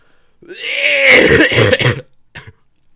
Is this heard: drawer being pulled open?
no